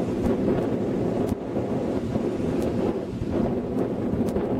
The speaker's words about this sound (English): Need this strong waves, strong wind.